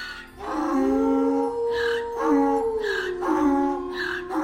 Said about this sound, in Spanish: Si le sumaban los rebuznos del burro y los aullidos del perro, aquella criatura parecía aún más espantosa.